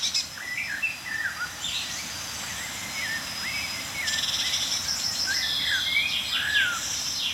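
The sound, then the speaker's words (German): A chorus of songbirds, with blackbird, chaffinch and tit calls mixing as short chirps, trills and whistled phrases that overlap continuously above a steady, faint high-pitched hiss. No one speaks. “Und ja, Amsel, Buchfink, Meisenrufer.”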